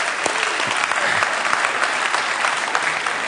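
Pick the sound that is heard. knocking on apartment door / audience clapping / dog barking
audience clapping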